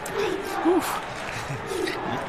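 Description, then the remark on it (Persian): A crowd cheers for the Blue Valley team, shouting together in a steady roar, with a few individual voices rising above the noise for a couple of seconds. “نه من خواهش میکنم یک بار دیگه تیم بلو ولی رو تشویق کنی.”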